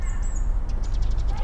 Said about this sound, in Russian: Они по-разному чирикают, правда ведь? Хотя их там двое. Вот сейчас один сидит.